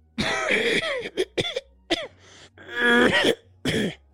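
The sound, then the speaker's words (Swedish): A 76-year-old man from Boden, Sweden, gives a harsh, phlegmy smoker's cough in several rough bursts and rattling hacks, with throaty clearing between them, loud with no speech. “Det är en 76-årig man från Boden som har rökhosta. Han sitter alltså och hostar i alla avsnitt”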